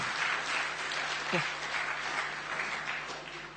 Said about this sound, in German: Können wir Ihnen als Gemeindefamilie einen Applaus ermöglichen?